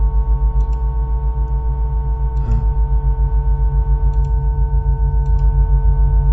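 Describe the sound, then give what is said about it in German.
A deep, throbbing hum drones steadily inside a gasometer, with a few faint scattered rattling clicks from something loose up top and one brief creak near the middle. No one speaks. “Hier zum Beispiel hört man das Knarren.”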